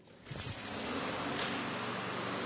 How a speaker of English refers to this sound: Over here, we have a mower with an engine. Okay? This mower has something different.